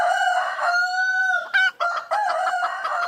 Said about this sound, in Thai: กระตากกระตากกระตากเอ้ยวันนี้เจ้าไก่มาเต็มเลยนะครับ